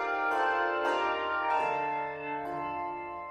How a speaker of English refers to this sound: Today, at many churches, like Bloomington's Wesley United Methodist Church, bell choirs enhance the experience of worship. Here at Wesley, we've had handbells since 1960s.